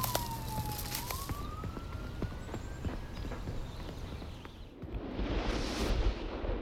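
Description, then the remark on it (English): A police siren wails steadily over scattered clattering footsteps, then a police squad car speeds off with a loud rushing roar that swells and fades near the end. “The squad car speeds off.”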